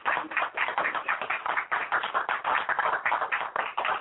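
round of applause

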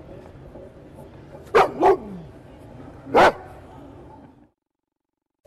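dogs barking

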